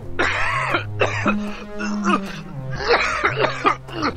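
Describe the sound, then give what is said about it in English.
A worsening cough: a series of rough, raspy coughs in quick bursts, fairly loud, with a low steady drone running underneath throughout. “…'s cough is getting worse.”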